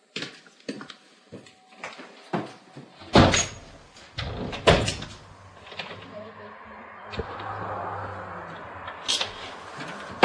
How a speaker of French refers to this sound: Un instant. Je ferme la porte parce que...